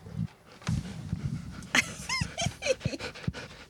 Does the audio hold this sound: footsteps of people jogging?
no